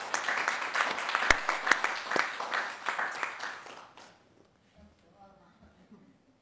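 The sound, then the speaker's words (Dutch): A round of applause at a committee meeting, given to thank a woman for her work, a steady crackling wash of many hands clapping for about four seconds before it fades, followed by faint murmuring voices. “Dus volgens mij is dat alle reden om daar nog even een applaus aan te besteden.”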